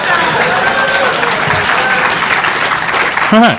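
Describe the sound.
An audience applauds steadily, a dense wash of clapping that holds loud for several seconds, with a brief voice cutting in near the end.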